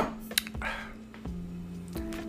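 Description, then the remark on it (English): Someone takes a quiet sip of water: a soft clink of the cup, a brief wet gulp, then a few light handling taps over a low steady hum, with no talking. “get a drink of water here.”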